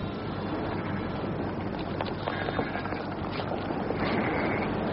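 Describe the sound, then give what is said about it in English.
Sea breakers below, a steady rushing roar of surf with faint swells rising and falling, heard alone through a windy, muffled, misty outdoor atmosphere. “The wind? No, breakers. That's the sea down there.”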